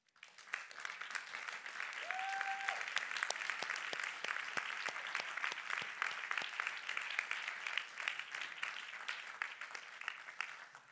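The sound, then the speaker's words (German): Sustained applause from a crowd standing up to honour the farmers present, a dense steady patter of many hands clapping for about ten seconds, with a brief whistle-like tone near the start. “Und wir haben ja nicht so viele Bauern heute, aber steht doch schnell auf und geben wir ihnen einen Applaus für alles, was sie immer um ihn machen.”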